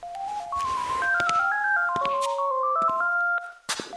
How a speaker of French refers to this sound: Le téléphone sonne, je... Non, non, surtout ne bouge pas, j'y vais. J'y vais.